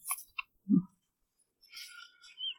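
A few quiet clicks and a soft low tap, then a brief papery rustle as a sheet of paper is set down and smoothed. No one speaks.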